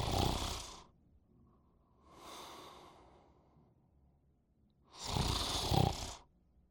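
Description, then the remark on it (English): Loud, heavy snoring of a giant character in a stage play: three long, rasping snores separated by short pauses, the last one the loudest, with no talking. “Giant begins snoring.”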